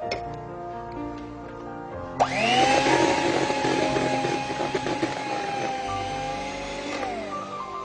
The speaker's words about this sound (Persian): آردم حتی ما میتونیم اینجا با خود همزن برقی هم بزنیم، با دور کم البته. میشه. من برای که گرد آرد بلند نشه یکم اول با قاشق هم میزنم، بعد با همزن میزنم.